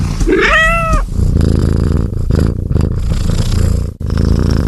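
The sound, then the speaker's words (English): A big cat gives a short, wavering tonal snarl, then settles into a loud, continuous low purring growl that rumbles steadily for several seconds, with no talking. “Nouveau Ford Puma Gen E, le félin passe à l'électrique.”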